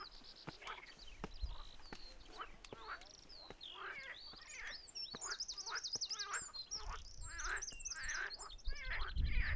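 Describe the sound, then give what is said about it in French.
A chorus of frogs croaking in quick, repeated bursts, layered and continuous, with high chirpy calls overlapping and sharp clicks scattered throughout, moderately loud, heard just off a coastal footpath. “Les grenouilles croissent et le vagabond passe.”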